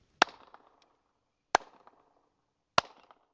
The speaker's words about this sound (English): claps his hands. The sound echoes between the high walls.